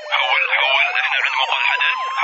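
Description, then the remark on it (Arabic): A steady police siren wails continuously as police head toward a school, its tone sliding up and down in a dense electronic warble, loud, with no gaps for the full stretch. “شنو الزحمة اللي دار مداري؟ شايب الشرطة صوب المدرسة.”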